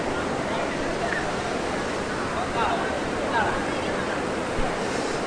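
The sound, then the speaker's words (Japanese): Steady, full rush of water pouring through an artificial river in the middle of a city, loud and continuous like a small waterfall, with faint voices barely rising above it. “あの名古屋のセントラルパークと比較したら怒られますけど、結構本格的に水が流れてますね、ここね。”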